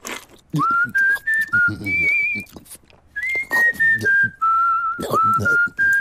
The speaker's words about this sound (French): Je me suis fait greffer une bouche dans ma main et comme ça, je peux manger puis siffler en même temps.